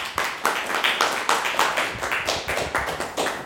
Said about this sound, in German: Danke fürs Mitmachen. Applaus für alle, die heute hier sind.